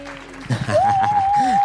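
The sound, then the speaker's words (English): Applause on a show welcoming a guest: a short burst of clapping starts after about half a second and keeps going, mixed with voices and a steady high whistle-like tone held over the top. “Can we get some applause? Applause.”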